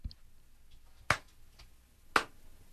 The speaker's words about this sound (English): Sorry, I have the hiccups.